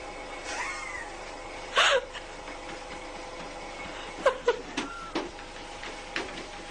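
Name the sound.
cat meowing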